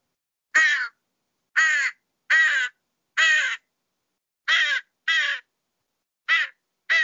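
A crow caws repeatedly, eight harsh, raspy calls in uneven pairs and singles, loud with silent gaps between them and no other sounds.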